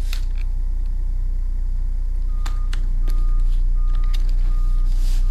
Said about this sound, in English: Oh, there's a tractor outside that's really bassy. I was wondering what that. There's something outside.